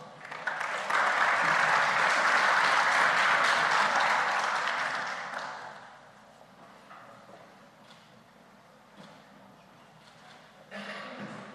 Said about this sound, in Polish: Mam taką jedną delikatną uwagę, jeżeli mnie głos nie słabnie, to państwo nie powinny słabnąć brawa.